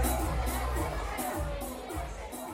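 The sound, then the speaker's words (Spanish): A large football stadium crowd roars steadily, a dense wall of many voices with rhythmic surges that suggest chanting or clapping, loud and continuous throughout. “Y luego bueno, nos vamos pues al fútbol.”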